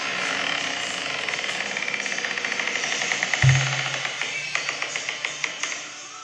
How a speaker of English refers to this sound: So on the way out, I mentioned to the waiter, I said, you know, that the men's room door sure makes a creaking sound. A little WD-40 had fixed that.